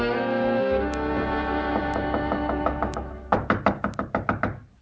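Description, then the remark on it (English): Sustained orchestral music plays, then a rapid, insistent series of about eight loud knocks on a wooden door breaks in near the end, evenly spaced over the fading music, as Hansel and Gretel knock on their father's door. “Father! Father! Open the door!”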